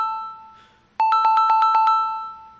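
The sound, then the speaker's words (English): A phone ringtone plays loud: a fading electronic tone, then a rapid trilling burst of bright, evenly spaced beeps, with no one talking. “Can someone remix this ringtone into something?”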